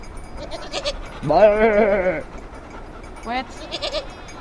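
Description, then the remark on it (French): Goats bleat: one lets out a long, wavering bleat, followed a moment later by a shorter one, with fainter bleats and background murmur around them. “Et on s'est retrouvés à 5h du matin avec les chèvres autour de la yourte, être obligés de les remonter dans le parc.”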